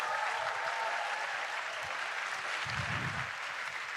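An audience applauds steadily, a dense wash of many hands clapping at an even level for several seconds, with a faint low murmur rising near the end.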